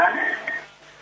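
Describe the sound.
Muffled broadcast audio from a television or radio playing behind a caller comes through the phone line into a call-in program, with indistinct voices and harmonic tones, fading after about half a second.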